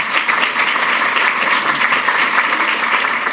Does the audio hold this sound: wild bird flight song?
no